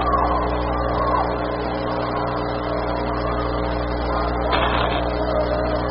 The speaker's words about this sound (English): All the kids are yelling for the ball.